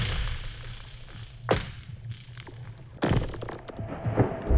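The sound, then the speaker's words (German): Frozen lake ice cracking as the ice moves: two sharp, whip-like snaps with a twanging, zinging ring, over a low rumbling hum and scattered faint pings and creaks. “Es zischt, knackst und kracht. Das Eis bewegt sich.”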